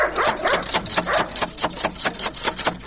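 A dog barks rapidly and repeatedly, a steady run of sharp, loud barks close by with almost no pause between them, and no one speaking.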